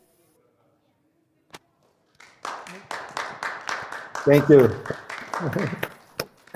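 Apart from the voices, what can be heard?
audience applause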